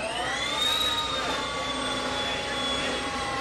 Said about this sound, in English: That jet-like noise is the sound of Project Livewire, Harley's newly unveiled electric motorcycle.